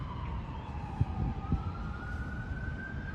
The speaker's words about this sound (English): Can you hear the ambulance in the live feed? You should be able to hear the ambulances right now in the live feed, guys. It's like 2:40 p.m., March 12th. If you're watching the White House feed, you should be able to hear this.